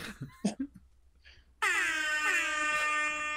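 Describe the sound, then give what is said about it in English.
After some brief laughter and voices, a loud, sustained air horn blast from a phone air horn app kicks in abruptly and holds steady with a bright, buzzy harmonic tone for nearly two seconds. “I was just pulling up my air horn app.”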